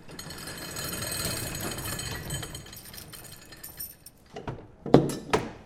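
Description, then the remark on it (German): A large motorized vehicle bay door at a fire station rattles and grinds steadily as it closes, then stops with a couple of sharp metallic clanks and thuds near the end. No voices. “Und so, wenn es wieder zugemacht wird.”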